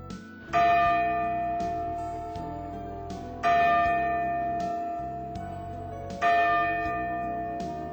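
The clock tower bell in Sapporo, Hokkaido, Japan tolls slowly, three resonant strikes about three seconds apart, each ringing out with rich overtones and a long, lingering decay. No voices are present.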